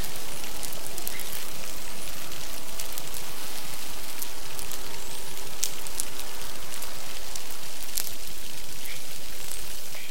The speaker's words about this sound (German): So klingt es, wenn die Delfine ungestört miteinander kommunizieren können.